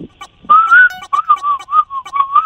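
Someone whistles a short tune: a loud, clear, pure tone that slides and steps between a few pitches in brief phrases, with no talking over it.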